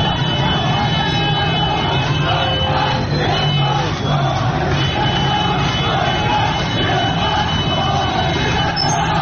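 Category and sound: crowd, protest crowd chanting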